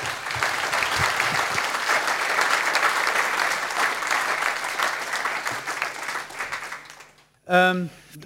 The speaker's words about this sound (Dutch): Hartelijk applaus voor Geert Mak.